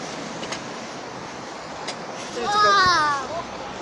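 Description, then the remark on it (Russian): Children squeal with delight outdoors in snowy winter weather, a short, high-pitched burst near the end, rising and wavering, set against a steady hiss of outdoor background noise. “Такие от всего сердца, без задней мысли верещат от удовольствия.”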